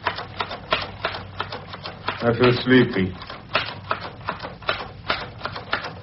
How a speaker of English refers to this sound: Perhaps your typing gets into my head.